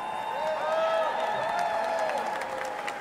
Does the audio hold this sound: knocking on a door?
no